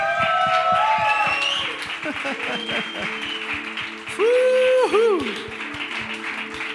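A crowd applauds steadily for Christ, with dense clapping throughout and scattered shouts and whoops rising above it. A louder burst of cheering swells near the end.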